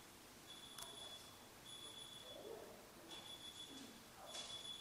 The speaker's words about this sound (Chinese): 是不是有人的电话忘记熄啊？